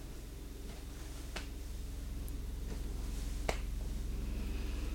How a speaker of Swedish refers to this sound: Och vi klappar vänster hand på vänster knä. Och vi klappar höger hand på höger knä.